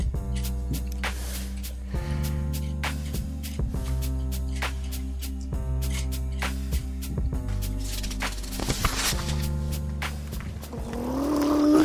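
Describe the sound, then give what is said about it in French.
A heavy garbage truck engine rumbles steadily, with repeated metallic clanks and thumps over the drone, and the motor revs up near the end. “Camion d'ordure, le crevant.”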